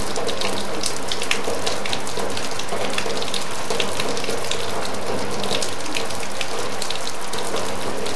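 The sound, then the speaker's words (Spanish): Heavy rain drums steadily on a metal sheet roof, a dense, constant patter of countless drops with sharp rattling hits, loud throughout with no voices. “El viejo Antonio espera a que todos se vayan quedando callados y solo quede el múltiple tambor de la lluvia sobre el techo de lámina.”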